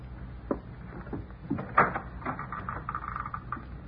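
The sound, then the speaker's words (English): An unlocked door is eased open quietly, with a few soft clicks and a faint creaking scrape, low in volume and with no one talking. “Door isn't locked. Good.”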